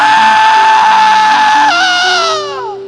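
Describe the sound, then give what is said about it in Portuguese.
A man's voice lets out a loud, sustained high-pitched scream in imitation of a woman, holding steady for over a second before sliding downward and trailing off. “Na hora que eu disse isso, ela deu um grito.”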